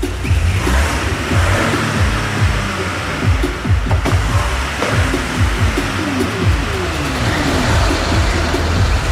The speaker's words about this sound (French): Une Peugeot 206 grise, mouais. Bon, on voit. Oh, on peut même pas rentrer. Qu'est-ce que c'est que cette voiture qu'on nous a donnée? Je te jure, c'est vraiment, regarde, elle fait un bruit de tondeuse.